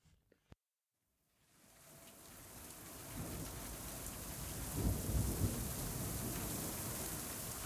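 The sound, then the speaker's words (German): Steady heavy rain fades in after a brief silence and settles into a dense, continuous hiss, while deep rolling thunder rumbles underneath in the middle of the storm. No one speaks. “Eilig, aber mit der nötigen Vor- und Rücksicht, buxierte Anka ihre älteste Milchkuh Martha durch den mittlerweile vom Regen aufgeweichten, schlammigen Boden in den Stall.”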